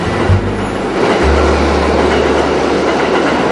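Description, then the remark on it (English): Heard in a subway car after entering Canal Street Station, a subway train rumbles steadily along its tracks, a loud, continuous low roar with a faint rattling texture throughout and no voices. “In a subway car.”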